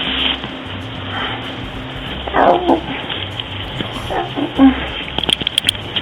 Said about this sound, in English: Dog whimpering. Go, puppy.